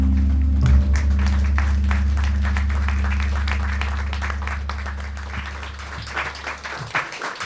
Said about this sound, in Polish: Brawa dla ciebie, ale brawa przede wszystkim dla tej niesamowitej dziewczyny.